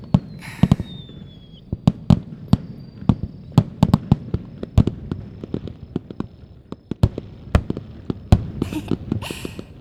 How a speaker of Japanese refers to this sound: あ、ねえ花火、ラストスパートみたい。ほら、あ、すごいすごい、やっぱ迫力のある花火はいいよね。